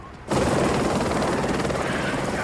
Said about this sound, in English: They both watch the helicopter fly away.